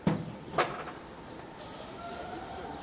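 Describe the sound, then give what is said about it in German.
Outdoor ambience of a market square behind the Ostbahnhof train station, with two rows of stalls facing each other: two sharp clacks near the start, then a steady low background hum with faint murmuring and occasional thin tones. “Es ist ein bisschen Hinterhofatmosphäre auf dem Platz hinter dem Ostbahnhof.”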